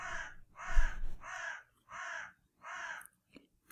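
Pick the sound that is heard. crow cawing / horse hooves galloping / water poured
crow cawing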